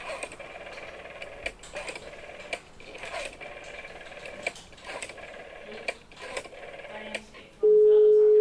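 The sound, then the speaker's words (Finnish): An electrician's phone number, 11511, is dialed, with short bursts of clicks spaced irregularly over several seconds, then a steady, loud line tone starts and holds at the end. “No niin, kirjoitin hänen nimensä tänne tilikirjan sivulle 115 riville 11, koska hänen puhelinnumeronsa on 11511. Kokeillaanpa.”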